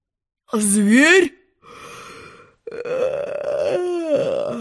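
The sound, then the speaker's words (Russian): A drawn-out, rising vocal yawn, followed by further sleepy, stretched vocal sounds, as a narrator voices a lion yawning while asking Alice who she is. “Спросил он, зевая.”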